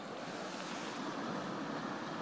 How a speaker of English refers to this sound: Well, I suppose I'm such a sad act that I can't sit here without hearing this sea wash and thinking, you can't edit sea wash. I don't think I've ever tried, but it's one of those things you're told, you can't edit sea wash.